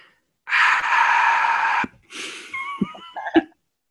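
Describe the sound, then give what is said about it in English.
A single voice imitates the groan of the crowd at Lions Stadium when a Lions running back, wide open in the end zone, dropped a pass: a long, breathy, sustained moan, a brief pause, then a shorter wavering tail with a few sharp vocal catches and breaths. “Dude dropped the fucking pass, and the great crowd noise went.”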